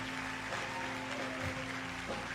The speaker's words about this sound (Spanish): Y que todos mirando a nuestra decana podamos darle un aplauso mirándola, por favor. Pero déselo fuerte.